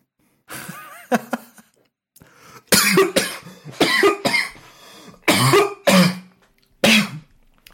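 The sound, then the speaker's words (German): A loud fit of coughing brought on by anger: a string of harsh, throaty coughs and throat-clearing bursts come in uneven clusters over several seconds, with short pauses between them and no talking. “Lauter Wut muss ich husten.”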